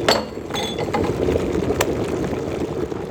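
Two drinking glasses clink several times at uneven intervals as they are set down for a water-pouring test, bright sharp knocks over a low, steady background rumble.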